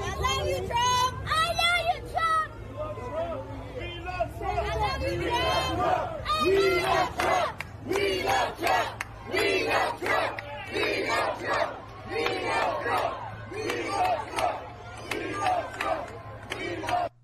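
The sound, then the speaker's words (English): A crowd in Harlem chants loudly and rhythmically, started by a 10-year-old child and a little girl behind her before a fuller group of adult voices joins in, the shouted phrases repeating in steady bursts with a low hum underneath. “Well, let's play the Harlem clip again because it is that little kid, that 10-year-old kid, and then the little girl behind her. And then the adults pick up the chant as well.”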